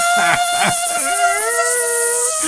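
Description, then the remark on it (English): A voice imitates a laptop fan whirring at full speed: a sustained, buzzy, nasal drone that wavers briefly, then slides gradually upward in pitch and holds steady for a couple of seconds. “The computer is like wheezing. The fan is on full bore the whole time.”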